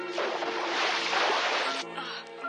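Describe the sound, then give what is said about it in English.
As a spacecraft splashes down into a tranquil blue sea, a loud, rushing wash of water swells for nearly two seconds, like a wave surging, then drops to a quieter background with a faint steady hum. “Its occupants unconscious, the spaceship becomes a ball of fire as it enters a dense atmosphere and splashes down into a tranquil blue sea.”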